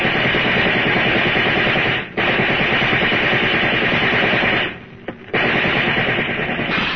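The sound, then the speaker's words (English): Police fire riot guns in a loud, sustained rattling barrage, dense rapid shots running together with two brief lulls before the gunfire resumes at full intensity. No voices are heard. “Those cops are using riot guns.”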